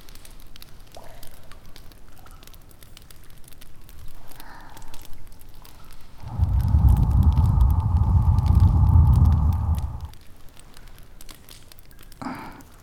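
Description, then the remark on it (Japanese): A bonfire burning underground crackles steadily with scattered sharp pops, and partway through a louder, low roaring rush swells up for several seconds before fading back to the quiet crackle. “焚き火あっても地下の気温は寒いですからね。”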